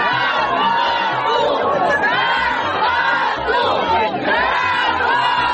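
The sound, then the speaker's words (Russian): About 200 workers of the Kerch Metallurgical Plant in Crimea rally on 29 May demanding unpaid wages, shouting together in a loud, continuous roar of overlapping voices, with a steady rhythmic thumping beneath it throughout. “Рабочие предприятия «Керченский металлургический завод» вышли 29 мая на митинг.”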